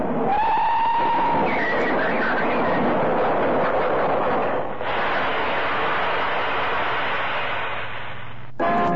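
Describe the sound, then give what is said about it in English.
A train brakes sharply as its driver tries to stop for an elderly man walking onto the line. A high metallic squeal rises at the start over a loud, steady rumbling roar that carries on for several seconds before cutting off abruptly near the end. “The silly old goose walking onto the line. Here, put on them brakes.”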